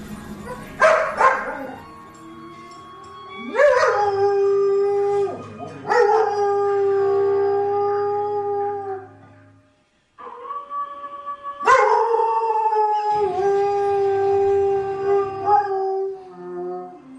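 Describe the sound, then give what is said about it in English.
A German Shepherd dog howls in long, sustained, wavering notes, several howls rising sharply then holding steady, with a brief pause midway; loud, with some background sound underneath, as it howls along to a TV show's closing theme. “And apparently this German Shepherd really likes this.”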